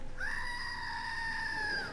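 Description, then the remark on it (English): A screaming goat novelty toy lets out one long, loud, nasal scream lasting nearly two seconds, held steady and piercing, then cutting off. No one speaks over it. “This is a special goat that Pastor Carol let me borrow, and it is a screaming goat.”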